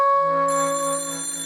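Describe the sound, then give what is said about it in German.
A telephone in a hallway rings in the morning in one steady, sustained burst lasting about a second and a half, bright and fairly loud, with no voices around it. “Hunkeler hörte das Telefon im Gang klingeln.”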